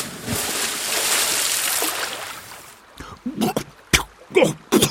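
A big, loud splash as Friar Tuck falls into a river in a Robin Hood story, a broad rushing wash lasting a couple of seconds, followed by several short sloshing bursts as the water churns and settles.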